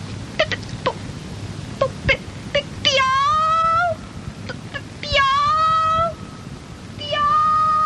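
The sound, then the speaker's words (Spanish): Three drawn-out, high, whiny calls, each about a second long, mix a cat's meow with a bird's chirp, a cat stuck up high calling another cat for help. A voice imitates them, fairly loud, after a few sharp clicks. “No maullaba, no piaba, maullipiaba.”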